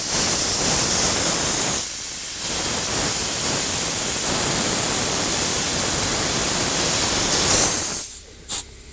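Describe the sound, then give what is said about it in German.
A steady, loud hiss of compressed air rushes for about eight seconds as air pressure is put onto an air bellows to check for leaks with leak-detection spray, with a brief dip partway through, then cuts off, leaving a couple of short sputtering bursts. “Also wir geben jetzt für alle, die zuhören, hier auf den Luftbalk mal ein bisschen Luftdruck drauf, um dann zu gucken, wo mit dem Lecksuchspray das Ganze anfängt zu blubbern.”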